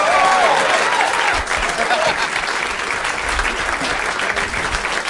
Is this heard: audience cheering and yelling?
yes